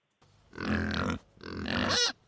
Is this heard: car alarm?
no